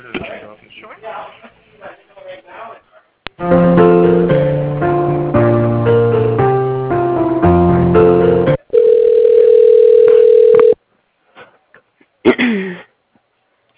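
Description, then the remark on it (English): A voice speaks briefly, then a loud run of shifting electronic phone tones plays as a call is transferred to another phone, followed by a steady sustained dial-like tone that cuts off abruptly, with another short voice afterward. “You know what, I'm gonna transfer you over to another phone real quick if you don't mind.”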